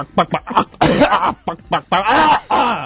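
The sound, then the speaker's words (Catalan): A person imitates a chicken with their cough: a run of short, clucky coughs followed by longer strained squawking bursts, fairly loud, with brief pauses between. “A part de la tos perrona, jo si voleu els puc fer la tos gallina.”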